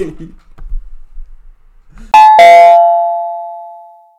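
A doorbell chimes with two tones, ding-dong, the second note ringing out and slowly fading over a couple of seconds after some faint murmuring.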